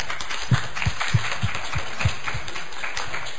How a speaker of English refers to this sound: Spontaneous applause. You got to love that.